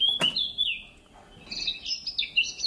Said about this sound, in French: Voilà, le voilà qui est parti. Voyez, c'est un des meilleurs chanteurs avec la grive musicienne et le rossignol, le merle noir. Il y a vraiment quatre espèces qui sont nos meilleurs chanteurs et lui en fait partie quand même.